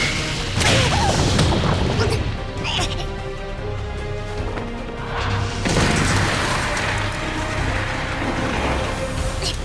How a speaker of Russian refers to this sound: Мой кнут обычно поражает цель сразу. От него уже давно никто не уворачивался.